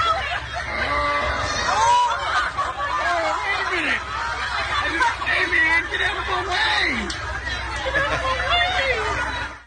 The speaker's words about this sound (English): It is a huge bird, and they just swim right underneath it and keep on going. But you can hear in this clip, the audience is a little bit surprised by the visitor to the swim meet.